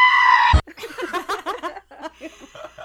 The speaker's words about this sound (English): But just for kicks and giggles, why don't we play you guys the scream right now? Ready? Listen for it.